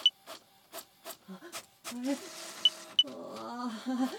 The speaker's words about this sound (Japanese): すみません、コピー機お借りします。こっちを20枚コピーしてっと。あれ、なんか変な音してる。なんかいっぱい出てきた。